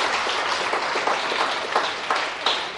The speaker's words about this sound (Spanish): En la gloria para el Señor. Un aplauso para Jesús.